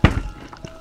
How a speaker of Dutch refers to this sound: Sycorax hoofd viel met een klap op tafel.